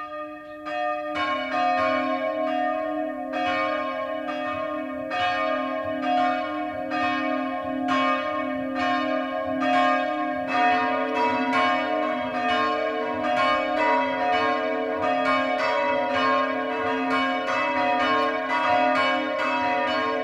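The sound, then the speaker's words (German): Several church bells ring the 12 o'clock midday peal in Neunkirchen am Main, Bayreuth district, Upper Franconia, Germany, on Reformation Day: overlapping strikes with sustained, resonant hum, steady, with no voices. “Das Mittagsläuten kommt heute aus Neunkirchen am Main im oberfränkischen Landkreis Bayreuth.”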